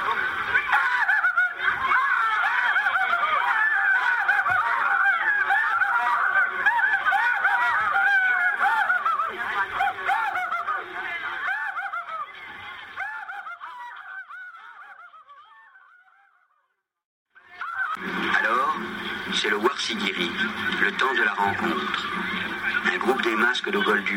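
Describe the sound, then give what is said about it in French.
A crowd of masked dancers, the small masks of Fulani horsemen, imitates a fox's cry at Sungulu: overlapping, high, yelping calls that waver and chatter without pause, fade out briefly, then burst back in just as loud. “En éclaireurs incertains, voici les petits masques de cavaliers peuls, poussant le cri du renard vivant.”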